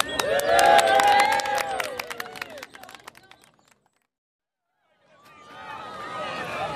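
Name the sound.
crowd cheering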